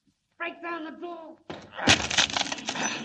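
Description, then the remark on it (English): A wooden door in the after hold of a ship is broken down to free a man trapped inside: a man's shout gives way to a loud splintering crack, followed by a sustained, noisy crash of breaking wood that lasts over a second. “Break down the door.”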